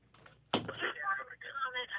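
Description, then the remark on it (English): A telephone rings in two warbling bursts separated by a short pause, starting right after a sharp clunk, fairly loud. “Would you just answer the phone?”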